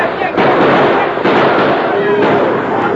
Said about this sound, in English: At a shout from the masked man, shots rang out over the heads of the bewildered steers.